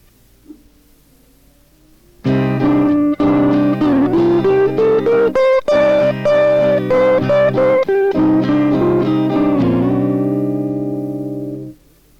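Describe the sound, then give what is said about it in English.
A loud, sustained instrumental melody using the second and the ninth as colour tones weaves through a flowing phrase of connected notes over a steady C-minor backing track, then settles on one long held tone that slowly fades out. “Here's an example using the second and also the ninth against the C minor track.”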